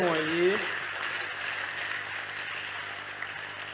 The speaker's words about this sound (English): All you ministers, thank you. God bless you. Can you clap for all these ministers?